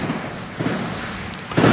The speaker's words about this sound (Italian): si sentono i fuochi d'artificio, grande festa, forse, oggi che è San Lorenzo. Noi li sentiamo qui.